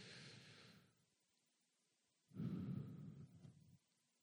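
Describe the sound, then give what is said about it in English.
A slow, audible breath drawn in, a short pause, then a longer, louder breath pushed out, with no talking. “Come on, let's take one more deep breath.”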